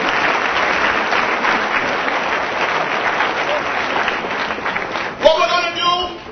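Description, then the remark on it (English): An audience claps loudly and steadily for about five seconds, giving themselves a hand for being there as the event gets started. It is a dense wash of many hands, and a man's voice begins speaking over the fading applause at the end. “Give yourself a hand for being here.”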